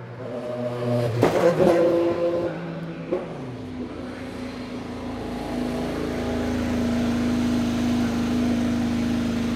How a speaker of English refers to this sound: And I thought that was just so neat to be that close to an Indy car come screaming right up to you. Thank goodness for that little 2 foot wall to keep you safe.